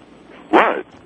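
A single short, loud dog bark, standing out sharply against a quiet background with no talking.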